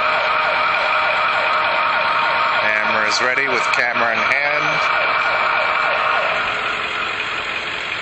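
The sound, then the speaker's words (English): Emergency vehicle sirens blare loudly and continuously, their pitch sweeping up and down in overlapping wails, while a person briefly speaks over the din. “Sirens are blaring.”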